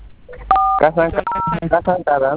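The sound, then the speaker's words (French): Two short touch-tone keypad beeps from a phone as a star code is dialed, each a steady dual-pitched tone lasting about a quarter second, sounding clearly amid a person's continuous talking. “Après la communication, vous pouvez le composer sur votre téléphone.”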